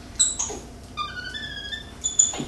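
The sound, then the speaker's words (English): A small helper monkey, Katie, gives a series of high, thin squeaks and chirps, some short and some drawn out, coming in a couple of bursts with no one talking, at a home in Weston, Massachusetts. “That's Katie, the helper monkey”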